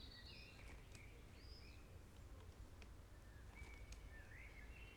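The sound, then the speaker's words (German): Sparse, faint bird calls chirp and whistle over a steady low outdoor rumble in the evening as the birds grow fewer and the air cools, with occasional thin clicks or insect-like ticks and no one speaking. “Ich merke, höre, wie die Vögel weniger werden, wie die Luft kühler wird.”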